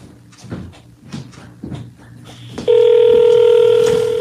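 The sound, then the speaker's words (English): An old landline telephone being picked up and dialed to make a call: a few soft handling clicks and knocks, then a loud, steady electronic tone hums on, clear with no talking. “Landline, old landline.”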